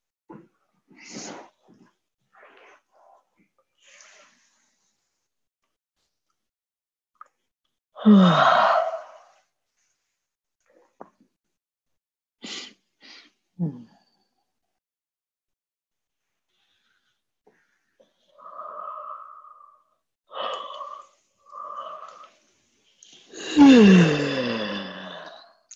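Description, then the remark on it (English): Several long, breathy yawns with a falling, drawn-out voice, spaced apart by quiet stretches, with a few soft breaths and short hummed tones in between. “And see if you can let the yawns and the movement and the stretching and the touching let you drift deeper into yourself, deeper into this space where somehow we don't know”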